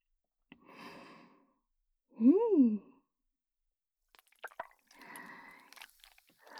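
Squishy blue slime mixed with store-bought shaving foam crackles and fizzes in two bursts of small pops and wet clicks, with a short breathy vocal sigh between them.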